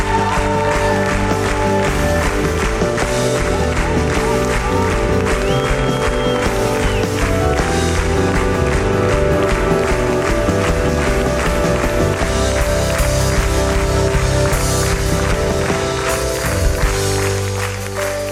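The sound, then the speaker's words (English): An audience claps steadily and loudly for the full length, the applause blending with sustained music playing underneath, with no clear talking. “Come on, let's just clap for another few more seconds.”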